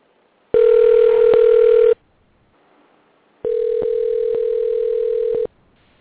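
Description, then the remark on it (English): A phone call to a show guest ringing out: two long steady electronic ring tones, each lasting well over a second with a short gap of quiet between them, fairly loud and with no voices. “Because he says he never got a ring to his phone. Let's try it again.”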